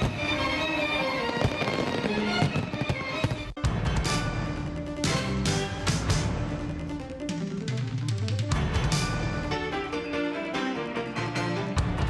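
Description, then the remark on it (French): A rapid, continuous barrage of fireworks exploding overhead at a Fourth of July celebration with a big concert in front of Congress in Washington, sharp cracks and booming bursts overlapping with crackling sparkle, loud throughout with no pause and no speech. “Célébration 4 juillet a été fini comme d'habitude avec un gros concert devant Congrès avec feu d'artifice qui t'a tiré en l'air dans le ciel capital là.”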